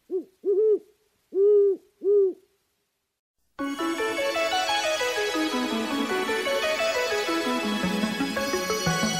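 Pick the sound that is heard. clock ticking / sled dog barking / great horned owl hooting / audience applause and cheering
great horned owl hooting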